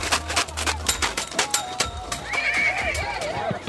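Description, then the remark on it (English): An Arabian horse at a horse competition in a rural area outside Nazareth clip-clops with a series of sharp hoof strikes, then lets out a loud, wavering whinny over a faint background murmur. “People in this part of the world have been breeding Arabian horses for thousands of years.”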